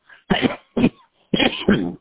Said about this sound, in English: we're praying for you to get rid of that cough. And, yeah, that albuterol, that inhaler, it does help to open up the lungs.